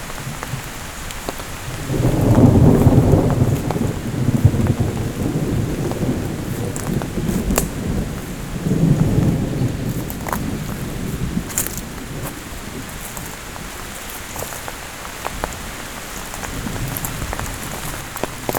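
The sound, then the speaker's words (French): Two deep rolls of thunder rumble a few seconds apart over steady rain during a light thunderstorm, recorded with a microphone under an umbrella, with drops pattering and tapping on a surface throughout. “Les éclats du tonnerre.”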